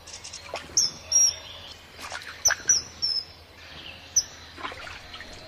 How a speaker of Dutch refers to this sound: Ik ga het jullie gewoon vertellen. Het is de ijsvogel. Ja, goed geraden. Heel erg goed geraden. De ijsvogel.